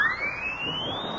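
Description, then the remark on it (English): A horn fitted with a siren mouthpiece, blown in a cafeteria, lets out one steady, shrill wail that glides upward in pitch for just over a second, with no voices. “It's got a siren in the mouthpiece.”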